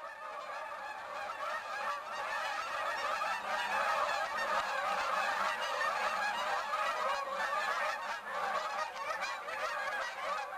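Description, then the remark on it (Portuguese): A dense flock of wild geese honks continuously, harsh overlapping calls filling the whole stretch at steady loudness, many birds calling at once with no voices present. “Chama-te como os gansos selvagens, ásperos, excitados, anunciando o teu lugar várias vezes, repetidamente, na família das coisas.”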